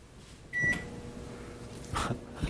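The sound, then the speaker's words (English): A microwave oven, paired to an Echo device and set by voice, gives a short high beep, then starts cooking 2.75 ounces of microwave popcorn for 3 minutes with a steady low electrical hum, broken by a soft clunk and a brief rattle toward the end. “What's the weight of popcorn? What's the weight? 2.75 ounces. 2.75 ounces. For how long? 3 minutes.”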